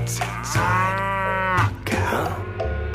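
A full-size cow moos loudly, two long, drawn-out lowing calls one after the other, each a deep droning bellow that swells and then trails off.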